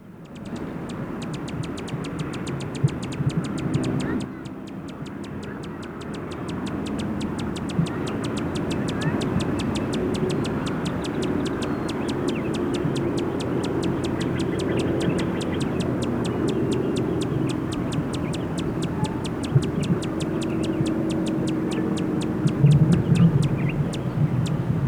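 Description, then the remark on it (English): A male Allen's hummingbird, disturbed, gives a long run of rapid, sharp, high-pitched chip notes, steady and repetitive over a continuous low rumble throughout, at a Duranta plumieri bush where it stays, at 2:25. “Time now is 2:25, and those were sounds of a male Allen hummingbird.”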